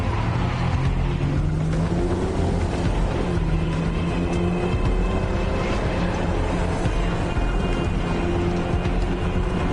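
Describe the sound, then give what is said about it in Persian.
A car being driven away by someone taking it runs loud and steady for several seconds, its engine pitch rising and shifting as it revs under throttle, with rough road and mechanical noise throughout and no voices. “بایستا بینم ماشینم کجا میبری؟”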